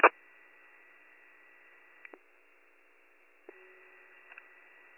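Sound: radio static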